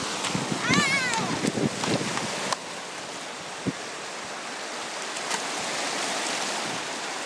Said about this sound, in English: We're about a mile and a half down from Loch End. Loch End. And it's a bit drafty. It's not too, it's a bit of a breeze, and it's having a bit of an effect on the water. It's nice, as you can hear.